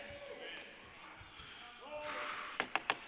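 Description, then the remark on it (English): Three quick, sharp knocks on a wooden pulpit in an even rhythm, loud and percussive, following a low murmur of voices and background noise. “I've never knocked on a pulpit like I do here.”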